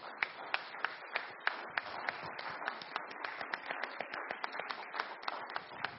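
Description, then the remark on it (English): A crowd applauds steadily in appreciation of guests, many hands clapping in a dense, continuous patter with a few sharper individual claps standing out, moderately loud throughout. “Let's give our guests a hand clap of appreciation.”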